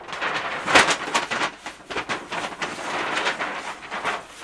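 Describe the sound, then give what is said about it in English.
A sheet of paper is crinkled and rustled, making irregular, crackly bursts of noise with one sharper crunch early on, continuing steadily without any voices. “You're making a lot of noise with that piece of paper.”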